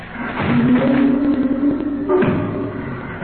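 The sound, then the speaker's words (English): A wooden attic door being battered down: loud, rapid thuds and splintering knocks run together for about three seconds, with a low creaking groan beneath them. No voices. “We heard the attic door beaten down.”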